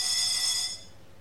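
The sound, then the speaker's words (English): A shrill, steady electronic alarm tone sounds for under a second, bright and harmonically rich, then cuts off abruptly into quiet background hum. “I didn't even know we had an alarm system here.”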